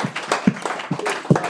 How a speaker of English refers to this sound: Del Strain, ladies and gentlemen, round of applause.